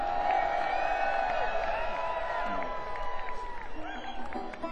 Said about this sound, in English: And the crowd goes wild.